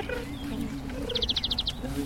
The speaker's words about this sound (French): La tourterelle turque, donc ça vous l'avez entendu. Ti-ti-ti, donc c'est trois strophes caractéristiques. Comme je vous disais hier, la tourterelle turque, ça fait trois strophes.